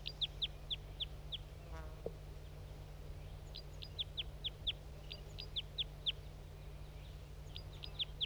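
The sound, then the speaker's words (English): Wild crossbills flying in give sharp, repeated chip calls in quick bursts, two birds joining a male that was singing, several birds calling in overlapping series against a steady low hum, moderately loud with no one speaking. “More birds coming in. Two birds joining that male who was singing.”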